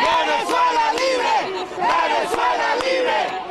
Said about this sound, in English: That's where protesters chanted Venezuela Libre outside the Venezuelan embassy.